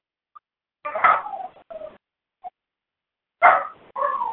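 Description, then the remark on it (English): Dogs whine and howl for their owner to come upstairs in two drawn-out, pitched bursts separated by a short pause, with a couple of faint yips in between; no one speaks. “Sometimes wild dogs, like wolves, when one of the pack leaves and goes hunting, they will sound like that.”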